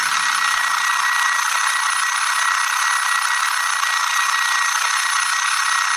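An alarm clock rings continuously for several seconds, a loud, harsh, steady metallic jangle with no pauses and no voices.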